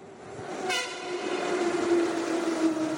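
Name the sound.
train passing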